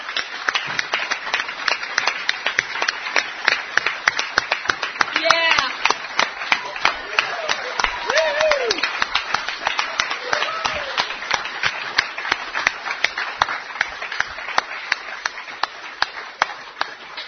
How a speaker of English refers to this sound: So I guess it's like this is a wowee factor for me and for the rest of the speakers that were here that if we could just put our hands together and clap and thank you for being here.